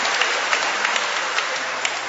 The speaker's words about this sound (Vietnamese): Cộng đoàn Công giáo ở hải ngoại hân hoan mừng kính trọng thể lễ các thánh tử đạo Việt Nam. Trong điểm hân hoan ấy, chúng ta cùng tung hô chúc mừng và một tràng pháo tay để chúng ta mừng ngày lễ này thật to, thật lớn, thưa anh chị em và thưa các bạn.